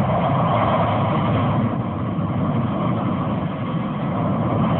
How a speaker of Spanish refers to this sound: Se aparta ágilmente, justo cuando parte de la bóveda se derrumba en medio de una lluvia de tierra.